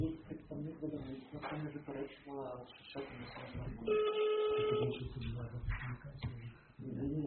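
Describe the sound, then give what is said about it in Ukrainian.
A steady phone ringing tone sounds for about a second in the middle as a call is placed during a committee meeting, clear, with people talking before and after it. “Я телефоную тоді, так?”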